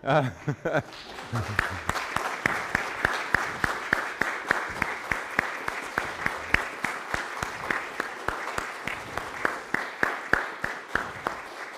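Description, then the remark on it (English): An audience at a worship service stands and applauds steadily for about twelve seconds to show appreciation, a dense, even patter of many hands clapping at moderate loudness, with a voice heard briefly at the very start. “So we typically don't offer applause in our worship service, but I think I'd like everybody that can to stand, and we'll show our appreciation.”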